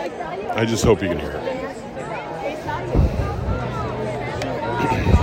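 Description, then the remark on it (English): A steady buzz of a large crowd of fans in a stadium at an Illini football game, dense overlapping voices and chatter blending into a continuous roar, with a few brief louder swells and shouts rising out of the din. “I hope you can hear this buzz, right? I just hope you can hear it.”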